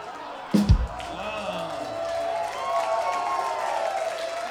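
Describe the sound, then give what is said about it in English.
An audience breaks into steady applause mixed with cheers and whoops, starting with a sharp thump and swelling into a sustained, noisy wash of clapping that holds for several seconds. “You clap now, but you clap now”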